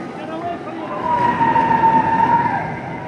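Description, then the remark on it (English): A car coming the opposite way draws closer while passing under an overpass near Central Park, New York City, its engine and tire roar swelling with a steady whine before easing off as it slows, over a constant wash of road and wind noise. “Going under an overpass, there's a car coming the opposite way. It's slowing down.”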